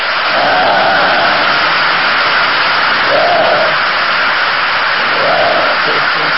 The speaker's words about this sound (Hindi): तालियों का आवाज से खुश है।